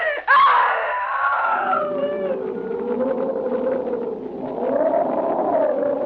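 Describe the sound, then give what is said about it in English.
A woman screams in terror, bursting in suddenly at full volume, then wailing on in a long, wavering, falling cry that stays loud for several seconds. “That I screamed.”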